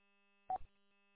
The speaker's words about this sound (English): What happened there? I heard a beep. Somebody's on or off, I'm not sure. Oh, somebody came on.